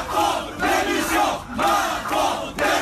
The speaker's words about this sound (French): Les CRS font sortir les manifestants manu militari. Ils scandent alors des slogans devant les portes.